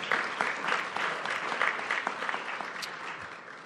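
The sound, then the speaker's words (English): An audience at a sustainability series event applauds steadily throughout, a dense wash of many hands clapping at once, moderately loud, with no voices rising above it. “Yeah, you can clap. You can clap.”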